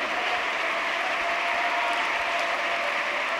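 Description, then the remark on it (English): An audience claps hands in a dense, continuous wash of applause, steady and fairly loud throughout, with no distinct rhythm and no voices standing out. “Clap your hands and give him the glory.”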